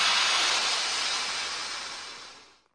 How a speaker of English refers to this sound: Now! In my hand, I hold a balloon. He inflates the balloon. I inflated the balloon.